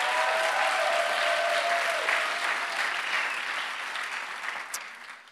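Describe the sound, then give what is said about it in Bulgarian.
An audience applauds during a sermon with dense, steady clapping that holds strong at first and then gradually thins and fades over about five seconds, with no talking. “Знам, че е рано в проповедта, но мисля, че има пример, причина да ръкопляскаш.”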